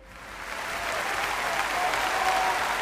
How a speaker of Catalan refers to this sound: Doncs aquest aplaudiment més que merescut per la Sònia Franquet, la tiradora esconenca que ha aconseguit medalla de plata als Jocs Europeus de Bakú i també per aquest oli d'oliva verge extra de Mas de Roquell de Rasquera